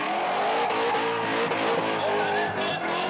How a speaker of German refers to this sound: Ein Highlight der Messe, die Drift Challenge. Hier zeigen die Fahrer, was sie können und die Zuschauer, was sie mögen.